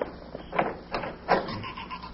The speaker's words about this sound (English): Oh, the dead blasted door.